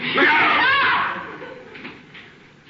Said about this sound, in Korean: 더욱 놀라서 비명을 지르는 앤. 하지만 속임수였죠.